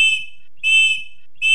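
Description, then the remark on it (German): A girl blows a golden whistle three times: three shrill, piercing blasts in a row, the first and last clipped short, each a steady high tone with evenly spaced pauses between them, loud, with no voices. “In diesem Moment zog das Mädchen eine goldene Pfeife aus ihrer Tasche. Sie pfiff dreimal auf der Pfeife.”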